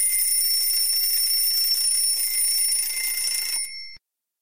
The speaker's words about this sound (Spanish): 8 de la mañana. Suena el despertador.